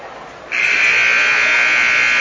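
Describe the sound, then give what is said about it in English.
A loud, sustained electronic buzzer blares at a steady mid-high pitch at a basketball game as the third quarter begins, with Highmore Herald playing, starting abruptly after a half second of crowd murmur and holding without a break to the end. “There they buzz them in.”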